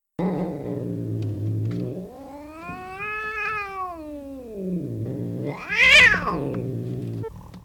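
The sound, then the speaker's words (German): A cat growls low and steadily, breaking twice into drawn-out, wavering yowls that rise and fall in pitch before sinking back into the growl. Fairly loud, with no voices. “Und manchmal knurrt sie auch, damit ihr bloß niemand zu nahe kommt.”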